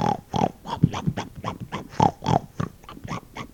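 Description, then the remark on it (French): A little pig eating oak acorns grunts and snorts in a quick, steady series of short, throaty bursts, a dozen or so in under four seconds, with no voices. “Tout le monde entendit, à l'exception du petit cochon, qui était occupé à manger des glands de chêne.”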